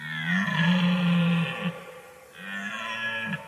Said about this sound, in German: bevor der Hirsch dann quasi aus dem Wald auf die Wiese gelaufen kam, hat man ja schon am Röhren immer gehört, dass er näher kommt. Es wurde immer lauter, bis er dann eben wirklich aus dem Wald rausgetreten ist auf die Wiese.